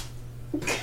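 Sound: sneeze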